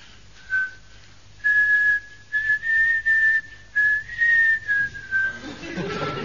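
A person whistles a catchy tune alone, a bright, steady melody in short phrases: a brief opening note, then a run of sustained notes with slight pitch bends, ending in a soft rustle.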